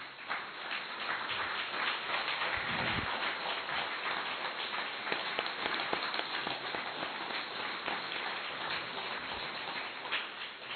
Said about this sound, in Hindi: अभी सभी एक बार जोरदार तालियां बजाएंगे।